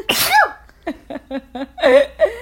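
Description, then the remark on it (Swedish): A single loud sneeze with a sharp burst of breath, followed by a few short murmured syllables and a brief exhale-like sound. “Prosit.”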